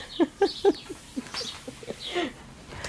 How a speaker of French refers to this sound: Ben, on a environ 300 mètres carrés, je crois, de jardin. Vous avez le chant des oiseaux, vous avez le vent qui souffle, qui donne l'impression qu'on est... Qu'est-ce que vous voulez être en pessimiste quand vous entendez ça? C'est pas possible.